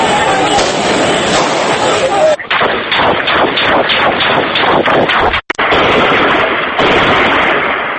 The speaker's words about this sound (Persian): بر پایه گزارش خبرگزاری فرانسه در بامداد روز دوشنبه و تنها دقایقی پس از نطق تلویزیونی پسر معمر قذافی در ترابلوس پایتخت لیبی هم از چندین محل صدای شلیک گلوله شنیده شده است.